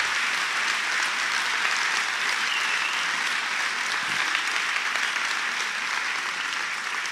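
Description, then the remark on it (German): Sustained audience applause honouring a married couple, a dense, even wash of many hands clapping at steady loudness for about seven seconds with no talking over it. “Und das verdient einen richtigen Applaus.”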